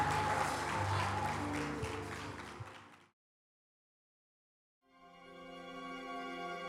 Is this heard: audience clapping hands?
yes